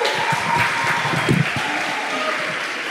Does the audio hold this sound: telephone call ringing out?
no